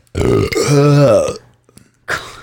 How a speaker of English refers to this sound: Me burping's getting you guys a little hot.